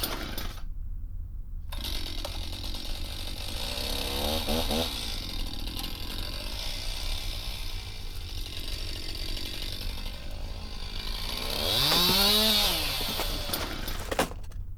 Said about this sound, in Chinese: 以前的我很笨，不知道电锯这么好用